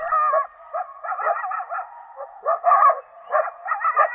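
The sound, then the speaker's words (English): A chorus of coyotes howling and yipping together in a canyon in eastern Washington, in wavering, high-pitched bursts that rise and fall over a few seconds, steady, with no voices. “Closer to home, coyotes howl in an eastern Washington canyon.”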